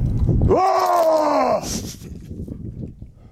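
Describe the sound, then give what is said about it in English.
A man lets out one loud, drawn-out roar at a bear to scare it off, lasting about a second, its pitch sagging slightly before it cuts off, followed by low, rumbling background noise. “So look, here's the moment he tries to call his friend over, but keep on roaring.”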